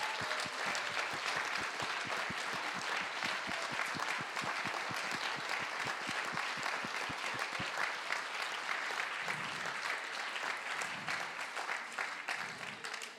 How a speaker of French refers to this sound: Juste, on peut faire un tonnerre d'applaudissements à toutes ces personnes.